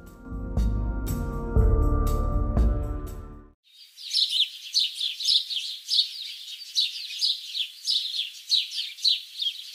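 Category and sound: bird, birds chirping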